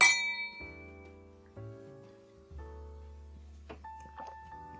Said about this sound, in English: So, yeah, here's your glass. Cheers.